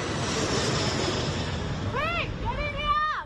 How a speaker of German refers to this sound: Weg hier, ruft eine Frau ihrem Sohn zu, als ein Flugzeug rote Löschflüssigkeit ablässt. Mehr als 100 solcher Maschinen sind im Einsatz.